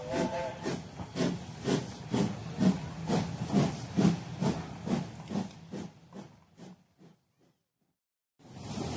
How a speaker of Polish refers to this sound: To za chwilę wybierzemy się w podróż XIX-wiecznym pierwszym pociągiem albo jednym z pierwszych pociągów do Gdańska. Skąd przyjedziemy? Przyjeżdżamy z Tczewa.